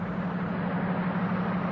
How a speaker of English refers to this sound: A police car speeds across the plain. Stop! The car pulls up in a cloud of dust.